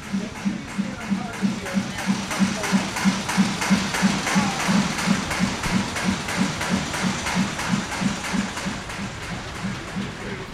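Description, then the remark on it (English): An old stationary engine, made in 1898, chugs steadily while driving the machinery in a blacksmith's shop, beating out a rapid, even rhythm of low thumps layered with clattering, hissing machinery noise that never lets up. “The engine first, which you hear running? Yes. That was made in 1898, and it drives the machinery in the shop.”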